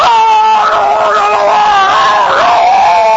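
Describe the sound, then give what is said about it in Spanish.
A loud, drawn-out scream from a patient at the dentist, heard from the waiting room, wavering in pitch and dipping near the end, continuous for about three seconds and strained, with no speech. “Porque si usted va al dentista, por ejemplo, sí, y se sienta en la sala de espera y ya oye los gritos de que está dentro.”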